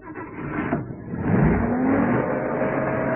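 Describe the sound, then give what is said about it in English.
A heavy lorry engine revs hard, its pitch climbing as it pulls away, then settles into a steady loud drone. No one speaks. “He's making for the lorry.”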